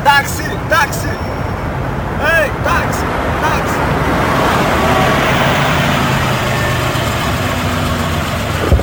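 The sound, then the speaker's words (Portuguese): Dense rush-hour street traffic on Avenida Brasil fills the scene with a steady, loud rumble of idling engines and passing vehicles, while a few brief voice-like fragments surface early on. “Tá hora do rush, o trânsito fica uma loucura, né?”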